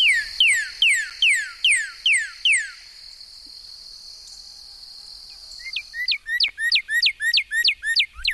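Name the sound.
northern cardinal song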